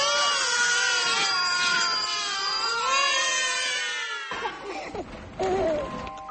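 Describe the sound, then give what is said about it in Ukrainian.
Several newborn babies cry loudly and close together in overlapping, wavering wails for about four seconds, then a brief pause before more scattered cries, in a festival's promotional advertisement in which Václav Havel addresses the newborns. “В рекламному ролику він промовляє до новонароджених немовлят.”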